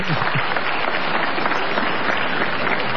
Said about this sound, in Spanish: Aplauso para Diego Salomón.